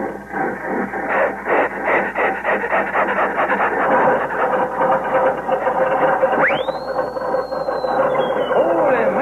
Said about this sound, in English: Listen to that Bearcat motor. Yeah, it sounds like the bear is chasing that cat all around it.